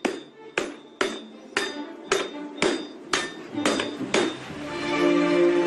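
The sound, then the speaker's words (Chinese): A sledgehammer pounds an iron wok by hand in a steady rhythm, about nine heavy metallic strikes, each ringing briefly, loud, with no talking. Two smiths in Zhangqiu, China, work as a pair: one signals where to strike and the other swings the sledgehammer, in traditional hand forging. “就是俺两人必须得配合起来，这个大锤呀，你看到我点下了，他打锤。”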